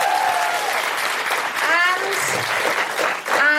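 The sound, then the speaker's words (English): A dense, sustained burst of applause from a theatre audience at a live show at Soho Theatre, loud, with a few whoops and cheering voices rising above the clapping. “Big round of applause for Francesca Moody.”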